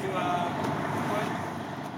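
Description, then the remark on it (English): Ambience at Atlantic Terminal near downtown Brooklyn, where four buses are loading passengers to travel across the state: a steady wash of idling engine rumble and traffic noise, with indistinct voices murmuring in the background throughout. “I expected that there would be a bus waiting, but instead there were four loading people on and getting ready to disperse across the state.”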